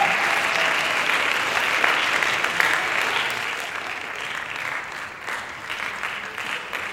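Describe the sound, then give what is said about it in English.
A small crowd bursts into loud, sustained applause with a roaring edge, dense clapping for the whole stretch, easing slightly in the final seconds. “The sudden roar from the small crowd pulled my attention away for just a second.”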